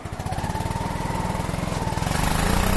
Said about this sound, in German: Ich sitze in einem Jeep auf der Rückbank und fahre durch eine Steppe mitten in Tansania.